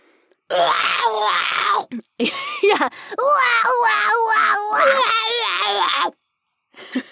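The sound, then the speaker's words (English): A person vocally imitates the scream of Pokémon character Ash Ketchum being electrocuted: a strained, wavering scream with pitch warbling rapidly through several loud sustained bursts over about five seconds. “I'm sure people are loving listening to us do the Ash Ketchum getting electrocuted scream over and over again.”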